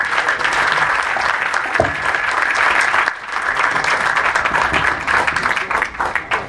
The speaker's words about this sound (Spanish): Un aplauso para él y gracias por estar aquí.